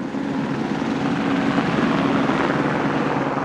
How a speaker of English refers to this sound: The weather that day was perfect for flying. Blue skies with just a bit of high cloud. The chopper climbed into the brisk winter air, blades thrumming as it cruised south across the Salt Lake Valley.